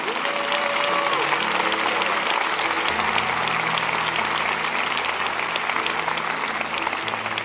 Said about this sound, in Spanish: Denles un buen aplauso a ellos.